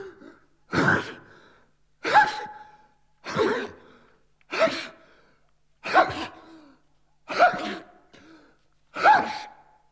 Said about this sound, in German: Was Idiotisches wie das Niesen.